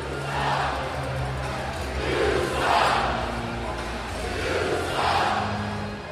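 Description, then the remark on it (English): A large hockey arena crowd roars and shouts in rolling waves, swelling loudly about three times over a steady low drone, with no clear individual voices, dismayed at an ECHL game featuring the Everblades as the two teams are tied heading into the third period. “And the two teams are now tied heading into the third and final period, much to the crowd's dismay.”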